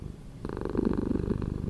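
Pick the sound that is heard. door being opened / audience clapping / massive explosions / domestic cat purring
domestic cat purring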